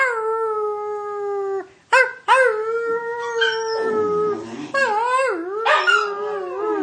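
A dog howls in long, drawn-out notes, with short breaks between them, the pitch sliding and wavering toward the end, where the howls grow more quavering and overlapping.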